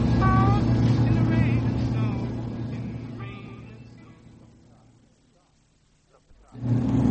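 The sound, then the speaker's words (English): A car engine drones steadily with a low hum on a lonely road between Dundee and Aberdeen while faint voices sound over it, then the noise fades almost to silence before the engine roars back abruptly. “Stop the car.”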